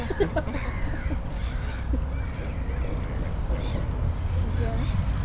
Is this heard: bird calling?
yes